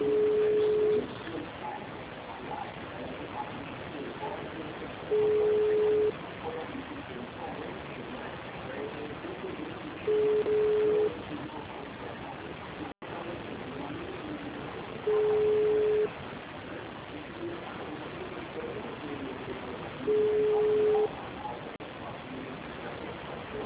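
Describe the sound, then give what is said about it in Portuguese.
A telephone ringback tone repeats five times, each steady mid-pitched beep lasting about a second with roughly four seconds of quiet between, over constant hiss while a call to a Santander bank branch goes unanswered. “O pessoal morre de ligar, mas não atende.”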